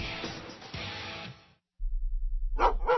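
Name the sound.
dog barking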